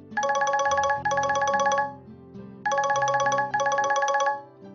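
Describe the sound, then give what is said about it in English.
A man's mobile phone rings while he is driving a car, in two pairs of bright, warbling electronic trills, each burst about a second long, loud, with a short pause between the pairs. “Uncle, please can you switch your phone off?”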